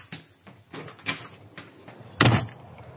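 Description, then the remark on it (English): A door being opened as someone steps outside onto a doorstep: a series of soft clicks and rattles from the handle and latch, then a sharper, louder thump as it swings free, with no voices. “On that note, I'm going to step outside.”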